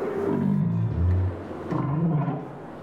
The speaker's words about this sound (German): Hier ist ein Grönlandwal. Der Grönlandwal hört sich ein bisschen an wie eine Kuh. Muh.